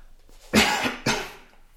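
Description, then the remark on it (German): Two forceful coughs in quick succession from one person, the first slightly longer and rougher than the second, with no speech around them. “Aber ich werde trotzdem mal husten.”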